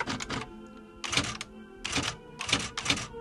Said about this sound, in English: types his diary in two perfect columns down sheets of 11 by 14 inch paper, which he eventually binds into ledgers and stores in huge cartons, 75 of which are stacked to the ceiling just outside of his office.